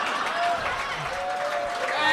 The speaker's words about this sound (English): They're applauding that joke because they've heard it already. They're applauding it because I say it every time.